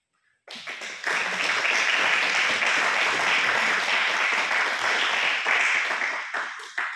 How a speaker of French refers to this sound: C'était le bon moment pour applaudir.